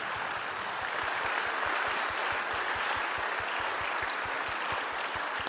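An audience applauds steadily for several seconds, a dense wash of many hands clapping with a regular thumping pulse running underneath. No one speaks over it.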